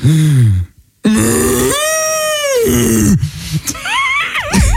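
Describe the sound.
A person imitates a Bavarian cow, letting out loud, drawn-out moos that swoop and warble in pitch, with a short pause early on and a wavering, almost frantic finish.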